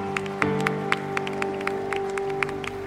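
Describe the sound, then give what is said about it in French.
An audience claps in loose, uneven bursts over a steady, sustained musical chord, the sharp hand claps rising above the held tones without any talking. “Applaudissez le témoin qui est fidèle.”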